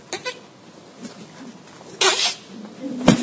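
A sharp, breathy sneeze bursts out, followed by a shorter explosive sneeze a moment later, with quieter background noise around them.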